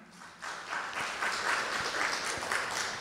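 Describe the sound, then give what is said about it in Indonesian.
An audience breaks into applause after a brief quiet moment, many hands clapping in a dense, steady patter that holds at a fairly even loudness to the end, with no one talking. “Boleh tepuk tangan buat yang sudah melakukannya?”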